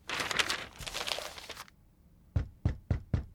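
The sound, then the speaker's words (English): A newspaper rustles and crinkles for a moment, then falls quiet before four firm knocks land on the street door downstairs in a quick, even sequence, loud. “Suddenly, they heard a loud knock at the street door downstairs. They heard the knock again and again.”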